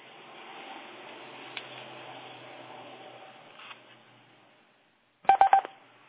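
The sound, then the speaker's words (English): A quick cluster of three or four sharp electronic beep tones on a conference call as another participant joins, sounding clear after a stretch of faint background hiss. “Here goes another beep. Who else is out there?”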